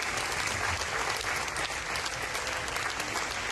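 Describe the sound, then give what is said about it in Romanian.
The audience at the Cannes world premiere screening of Radu Judea's film Journal d'une femme de chambre applauds the film's team, a dense, continuous wash of many hands clapping at an even, fairly loud level throughout, with no pauses or voices standing out. “Publicul prezent la proiecție a primit cu aplauze echipa filmului.”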